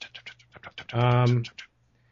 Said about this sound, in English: You hear keyboard tapping.